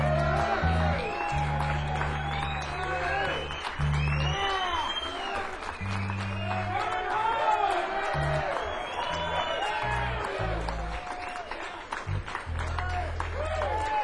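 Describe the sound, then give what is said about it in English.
An audience in Detroit welcomes a musician to the stage, clapping and cheering loudly and steadily for the whole stretch, with whoops and shouts rising above dense applause and a low hum underneath. “Big round of applause.”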